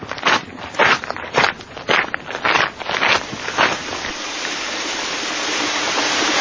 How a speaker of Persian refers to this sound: خدای شکرت، چه بارونی داره میباره.